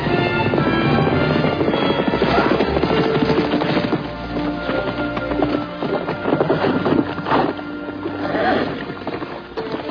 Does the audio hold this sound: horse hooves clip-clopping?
yes